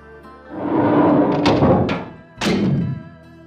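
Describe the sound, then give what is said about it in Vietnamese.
A temple's back door, a bamboo screen left only ajar, is blown open by strong wind and bangs hard against the wall: a heavy rattling thud followed by a second sharp knock, loud with nobody speaking. “Cánh cửa sau của chùa làm bằng phên tre, chỉ khép hờ, bị gió mạnh đánh bật va vào vách.”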